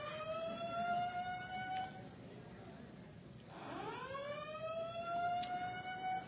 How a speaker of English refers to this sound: This is the first time that the siren went off when I said that.